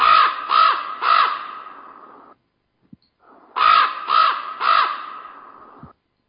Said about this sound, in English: I'll play a raven. Okay. This raven actually has some reverb on him, well, like he's in a cave or something. Take a listen. Here's normal speed.